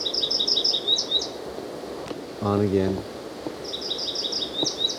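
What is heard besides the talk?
bird calling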